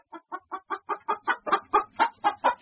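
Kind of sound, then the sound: bird, chicken clucking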